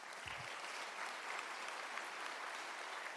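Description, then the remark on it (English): A steady wash of applause from an audience fills the space, many hands clapping together in a dense, even roar without pause, with a brief low thump near the start. “That you could clap on that.”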